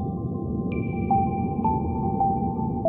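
Calm ambient music: a steady high tone hangs over a low, rumbling drone, while soft ping-like notes sound every half second or so and echo away. No voices.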